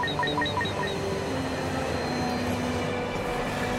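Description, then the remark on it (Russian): A train roars along at speed as it enters a tunnel, a steady loud rumble filling the space, with a quick run of five short electronic beeps at the very start. “Заезжает в туннель. Будет трудновато. Состав, вы там держитесь.”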